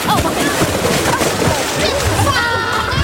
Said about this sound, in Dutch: De zwemspelletjes zijn inmiddels begonnen. De kinderen springen het water in en duiken omste beurt een ring van de bodem.